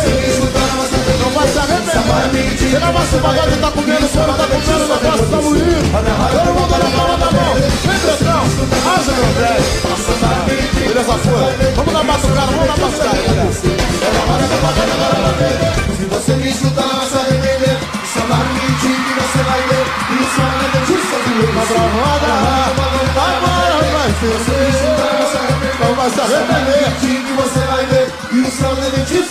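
A loud, dense live crowd at a pagode show fills the whole stretch, with sustained applause and cheering and high-pitched screams from many women over a steady music-like bed; the noise stays intense, with no pauses.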